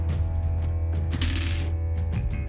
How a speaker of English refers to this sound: At the end of your turn, yeah, the dice of fate do their jiggly thing.